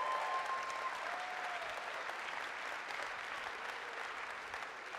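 A church audience applauds, a dense, steady wash of many hands clapping together that holds evenly throughout and fades only slightly at the end, with no one speaking over it.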